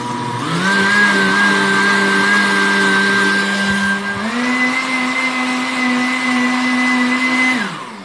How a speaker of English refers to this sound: Here's the blending, because you've got to put all that in a blender and blend it.